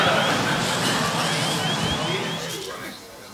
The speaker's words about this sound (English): With the APUs on? APUs on. That's the noise you were hearing.